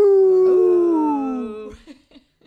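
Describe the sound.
Several people howl like wolves as a greeting: a long, wavering wolf-like howl sliding slowly downward in pitch over about two seconds, then breaking into a few short trailing vocal sounds before fading out.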